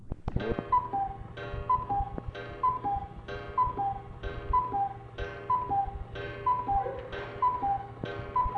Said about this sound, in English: Daddy, that was just the clock cuckooing that I wanted you to hear. And it says 9 o'clock, but it's not really 9 o'clock.